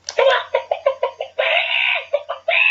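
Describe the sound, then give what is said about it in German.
A quick run of loud, rhythmic chicken clucks, about seven sharp pulses, then a long drawn-out squawk and a final cluck, clear with nothing else around it. “Zu einem ganz seriösen neuen Kategorie kommen, und zwar die Spalte Hühnergezwitscher.”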